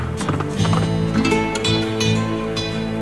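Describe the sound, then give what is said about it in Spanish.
Horse hooves galloping in a loose, uneven rhythm as a rider takes off into the hills toward Sierra Morena, moderately loud and mixed with a sustained musical backdrop of steady tones that continues throughout. “Por tanto, cogió el primer caballo que pilló y se lanzó al monte.”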